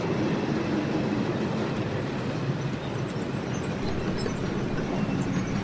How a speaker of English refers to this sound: this could be the freight train I was waiting for. Hold on. Yeah, that looks like a freight train. There we go. Look at that. That's a thing of beauty.